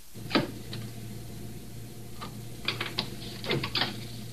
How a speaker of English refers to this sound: Now he opens the gate, exposing the heads. He marks the spot for the cut. You'll hear him dropping the pencil.